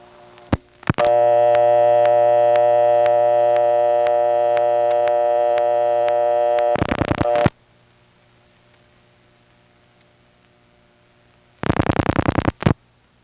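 A telephone line hums with a steady tone, then two quick bursts of rapid dialing clicks come through as the local test line 5-9 is dialed from a step-by-step exchange, separated by several seconds of near silence. No one speaks.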